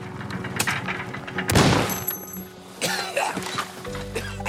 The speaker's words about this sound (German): Aber auf halber Strecke fliegt mir die olle Mofa um die Ohren.